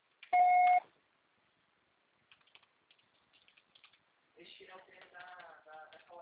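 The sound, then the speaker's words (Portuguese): A single loud, steady electronic beep, like a voicemail recording tone, lasting about half a second. Then silence broken by faint scattered clicks and tapping, and finally a voice starts speaking. “Grave seu recado agora.”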